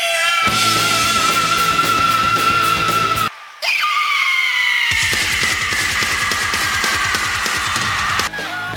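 Loud, sustained screaming in two long stretches split by a brief pause; the second scream starts high and slowly slides downward over a dense, noisy backdrop.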